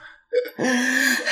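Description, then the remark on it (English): A voice imitates heavy breathing: a quick sharp intake of breath, then a long, raspy, partly voiced exhale, fairly loud, with a brief breathy rush at the end. “I think I had a lot of heavy breathing, like...”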